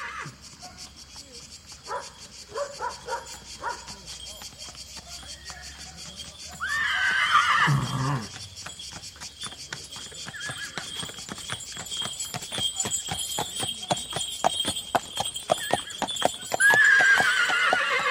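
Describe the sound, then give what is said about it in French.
A horse gives a loud whinny, followed by a steady clip-clop of hooves that keeps an even rhythm, with scattered hoof beats before the neigh. “Le cheval, c'était quelque chose, c'était un animal roi dans l'agriculture, c'était le maître, c'était la plus noble conquête de l'homme, c'était aussi la plus belle possession du paysan.”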